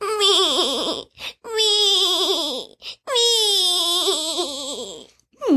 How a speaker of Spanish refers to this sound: ¿Por qué estás llorando